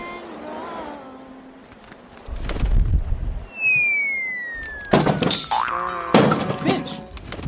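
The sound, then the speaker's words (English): A long descending whistle slides down like a bird falling from the sky after it stopped flapping its wings, ending in a loud cartoonish crash and thud as it hits the ground, with a low rumble and brief squawky vocal sounds around it. “You just stopped flapping your wings and hit the ground and splat!”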